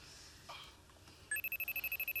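After a quiet moment, a telephone starts ringing nearby with a rapid, warbling electronic trill, its pulses steady and fairly loud, with no one talking over it.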